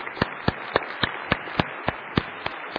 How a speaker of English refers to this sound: Clapping. All right. Come on, break the ice. Clap with me.